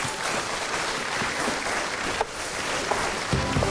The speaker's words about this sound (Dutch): Groot applaus voor alle lijsttrekkers.